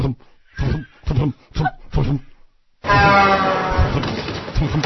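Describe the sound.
A voice mimics people being hit by multiple cars like rag dolls: five short, low thumping grunts in a steady rhythm, a brief pause, then a loud, sustained rasping roar with wavering harmonics.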